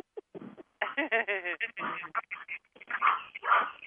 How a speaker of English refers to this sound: What's that dog's name in the background?